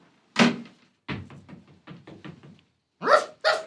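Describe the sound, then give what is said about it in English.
A dog named Charlie barks late at night in short, loud bursts: one sharp bark, then a quick run of softer, choppy yaps, and finally two strong, tonal barks. No one speaks. “What is it, Charlie? Is something out there? Quiet down, boy.”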